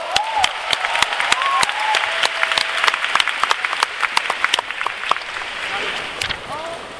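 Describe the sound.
An audience applauds to welcome a professor before his talk on free radical damage and antioxidants, a dense, steady wash of many hands clapping for several seconds, with a few sharper individual claps and faint voices or brief calls rising within it.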